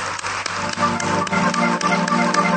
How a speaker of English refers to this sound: Praise the Lord, everybody. Let's give that hand clap to Jesus, can we? Lord, we love you.